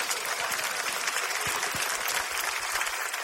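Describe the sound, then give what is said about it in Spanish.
A steady burst of applause from a group for Cuchi Cuchi, the little rabbit of a story, dense overlapping claps filling the whole stretch at an even, fairly loud level with no voices breaking through. “Ok, un fuerte aplauso para Cuchi Cuchi.”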